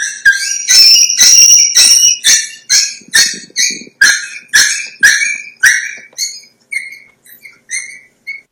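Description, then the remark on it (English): A fearful puppy screams in a loud, high-pitched, repeating cry, a long shrill wail followed by a rapid series of short yelps that grow shorter and fainter toward the end. “We can often identify when a puppy is fear imprinting by a very specific vocalization that we call the puppy scream.”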